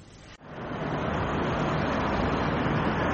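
Steady, dense roar of street traffic in central London on World Car Free Day, a broad continuous wash of passing vehicles with no distinct individual cars standing out, briefly dipping near the start before holding level.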